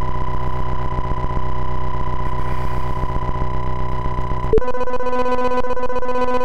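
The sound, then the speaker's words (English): A loud, steady electronic tone hums on its own, then abruptly switches to a different, higher-pitched beep-like tone, caused by hitting the restart button, that holds until the end, with no voices present. “Beep. That means I hit the restart button,”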